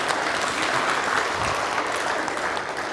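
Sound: audience clapping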